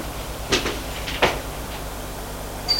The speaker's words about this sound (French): Il ferme la porte.